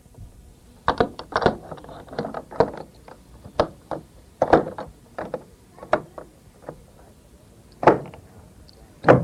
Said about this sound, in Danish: Sådan lyder det, når døren bliver låst op ind til Højris slot.